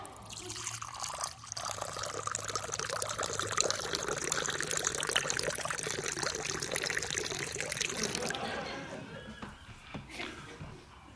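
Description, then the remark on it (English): Cheap whiskey pours steadily from a bottle over a person's head for about eight seconds, a continuous splashing gush that then cuts off, leaving a few faint drips. “pour about half the bottle of cheap whiskey over your head and rub it in well.”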